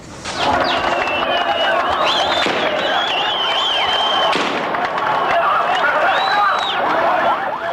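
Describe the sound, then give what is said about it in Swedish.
Loud, dense crowd of hundreds of thousands of Palestinians cheering and shouting as PLO leader Yasser Arafat returns from exile to the Gaza Strip and Jericho on 1 July 1994, with sharp bursts of rapid automatic-weapon fire crackling throughout, chaotic, alongside high whistles or ululating cries. “kommer hem till smattrande automatvapen. Han möts av hundratusentals jublande palestinier.”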